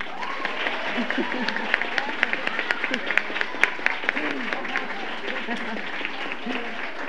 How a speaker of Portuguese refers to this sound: Muito obrigada, essas palmas também são para vocês.